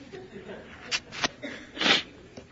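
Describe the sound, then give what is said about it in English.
Quiet sniffling: two short sharp sniffs followed by a longer, breathier blast of clearing a runny nose, then a faint final sniff, with no talking. “Better than keeping on sniffling.”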